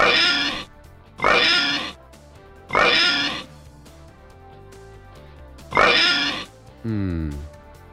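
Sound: pig oinking sound effect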